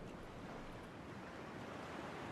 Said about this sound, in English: These are not the peaceful waves you play to fall asleep at night. They're hurricane waves, and the sound is from a video of the artist Clifford Ross. He's standing in the surf, clicking the shutter on his camera.